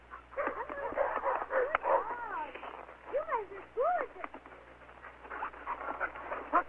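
Several sled dogs whine and whimper in rising, falling cries over a steady rasp of quick, breathy panting, continuous throughout.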